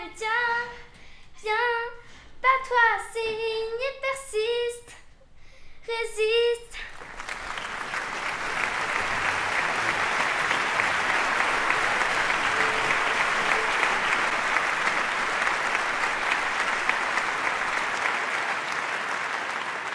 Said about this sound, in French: Les soirs de concert, quand on rentre sur scène, le public qui applaudit, qui nous accueille, ça fait le focus.